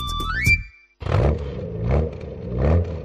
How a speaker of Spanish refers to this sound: A tu coche también le cuesta la cuesta de enero.